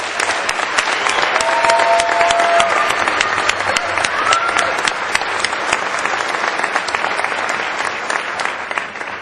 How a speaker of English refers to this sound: Obviously, these students have the words in the right order. Please, let's give all of them another round of applause.